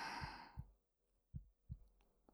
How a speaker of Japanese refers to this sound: 私の心臓の爆音聞いてると先輩までドキドキしちゃいそうですね。でもしばらくすれば収まると思うから安心してください。